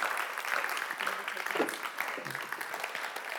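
A crowd claps steadily for a few seconds for a woman who has just shared her story, a dense, continuous patter of many hands at moderate loudness, with faint voices mixed in.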